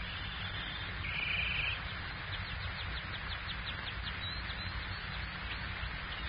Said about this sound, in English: The golden canary in its cage. The canary which gave him so much delight, of which he was so proud. What was it he said? You turn the key